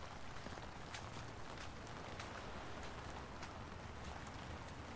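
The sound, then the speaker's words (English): Steady rain drums on a green umbrella held over two people's heads, a dense, continuous drumming with scattered sharper drops tapping through the constant hiss. No one speaks. “The rain makes a drumming sound as it falls on their umbrella.”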